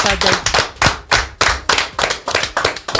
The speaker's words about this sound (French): En tout cas, merci encore. On t'applaudit encore, surtout pour le message.